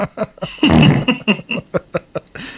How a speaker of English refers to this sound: And for them, I'm going to play a bunch of fart sounds for them.